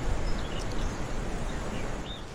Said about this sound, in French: Oui, effectivement, elle est très accueillante, cette forêt. Le bruit de la rivière, des feuilles, des oiseaux.